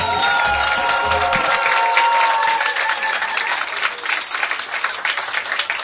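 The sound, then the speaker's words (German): A crowd applauds steadily for about six seconds aboard the Danube dance ship MS Isabella, a dense wash of clapping with some cheering voices mixed in, staying loud throughout and thinning slightly toward the end. “Ja, Sie hören es, liebe Hörer, wir sind wirklich auf einem Tanzschiff mit einem ganz tollen Publikum.”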